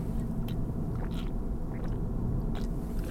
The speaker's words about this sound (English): Hold on a second, take a drink here. I'm coughing up a storm.